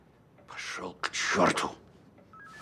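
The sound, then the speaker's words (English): A few loud, rushing bursts of noise give way to a short electronic ring of a man's phone starting at the very end, thin and moderately quiet, heard alone without talking. “Bennett goes to slap Ivan, but stops when his phone rings.”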